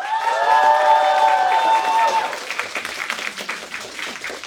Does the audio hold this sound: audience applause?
yes